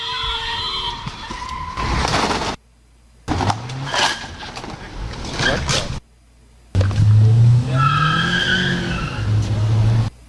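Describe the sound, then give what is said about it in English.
Loud screeching tires skid in several harsh bursts with brief silent gaps, over roaring car engine noise, during a hit-and-run car crash on Hoover Street in Los Angeles, caught in a live TV news report as one car speeds away. “And during the report, there was a car crash, which was a hit and run.”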